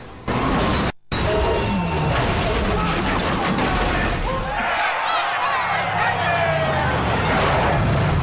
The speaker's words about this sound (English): The Monte Carlo charges at the station wagon and rams it, flipping it over.